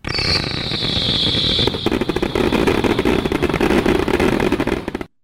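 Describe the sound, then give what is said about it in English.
A screaming serpent firework lets out a loud, high-pitched whistle that slides gradually downward for nearly two seconds, then gives way to dense, rapid crackling and fizzing that continues until it cuts off. “It's called a screaming serpent, but whistling bunghole is was way better.”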